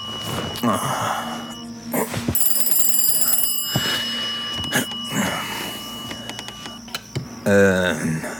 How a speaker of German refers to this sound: Telefon. Um diese Zeit.